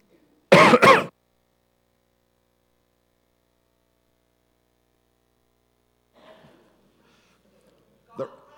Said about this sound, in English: I'm going to cough, so I'm going to turn off my mic for a second.